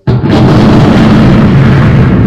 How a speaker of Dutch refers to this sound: Ziet je, 4 ontploffingen, maar je hoort eigenlijk maar 1 knal. Dat gaat zo in milliseconden na elkaar.